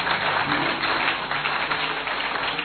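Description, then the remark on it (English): A crowd at a religious sermon clapping their hands together when asked to, a dense, steady wash of applause that stays loud and even throughout, with no voices standing out above it. “Clap your hands if you would.”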